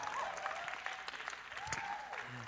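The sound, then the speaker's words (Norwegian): An audience at an evening church meeting claps steadily for a couple of seconds for the worship music and those who lead it, a dense wash of applause at a moderate, even level, with a faint tonal murmur running underneath. “Skal vi gi en applaus til lovsangen og de som leder seg lovsang?”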